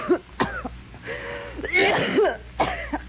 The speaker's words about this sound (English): You got a bad cough. You need some sun.